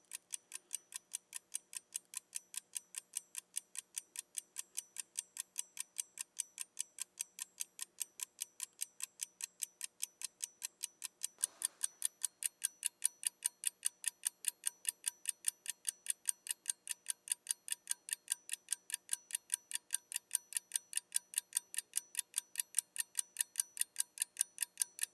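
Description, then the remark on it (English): A mechanical clock held about 3 inches from the microphone ticks steadily and crisply, a fast even stream of sharp clicks throughout, first with its front and then its back pointing toward the mic, with a brief rustle partway through as the tone shifts slightly. “First, a clock ticking. I'm going to hold the clock about 3 inches from the microphone and see what that sounds like.”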